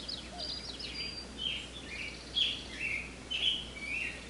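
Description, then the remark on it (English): Birds chirp and call in short bright bursts over a soft, steady wash of breeze-like noise, the calls coming every second or so. “You hear birds and the breeze and all that”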